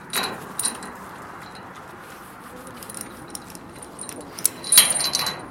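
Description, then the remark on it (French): Metal tools are taken out of a caravan, clinking and rattling as they are handled and set down, with scattered light jangles and a louder cluster of clanks near the end, with no talking. “Voilà, caravane, sortir les outils.”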